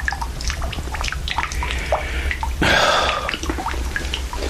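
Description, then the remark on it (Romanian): A dripping faucet: many small water drops fall at an irregular pace, with a brief louder splashing rush in the middle, over a steady low background hum. “Robinetul ăsta. Auzi cum picură.”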